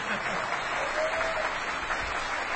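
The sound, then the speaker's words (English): Steady applause from an audience for the event staff and volunteers: a dense, even wash of many hands clapping at a constant moderate level throughout, with no pauses or build. “You're going to be doing a lot of clapping. Keep it up.”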